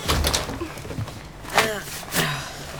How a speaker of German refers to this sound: Mach die Tür zu, Opa.